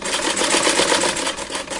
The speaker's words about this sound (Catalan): No és el so de cap videojoc, és l'agulla d'una màquina de cosir que va amunt i avall, una eina que en mans d'una persona experta pot crear qualsevol peça de roba imaginable.